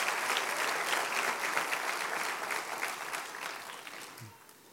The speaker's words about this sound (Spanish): Aplauda al Rey de Reyes y Señor de Señores.